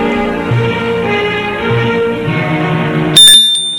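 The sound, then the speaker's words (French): Soft music plays for a few seconds, then a single bright doorbell ring at a front door cuts in near the end, loud, its metallic tone ringing out briefly. “On a sonné à la porte.”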